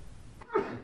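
One short sneeze bursts out after a faint, hissy background, with a brief voiced edge and a quick breathy tail, moderately loud, with no talking.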